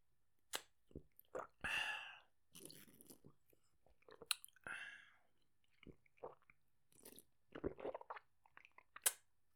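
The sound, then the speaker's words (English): Someone drinks from a small bottle of Yakult, with wet sips, swallows and mouth clicks coming in irregular short bursts between quiet breaths. “After I drink my Yakult, I'll tell you all about ….”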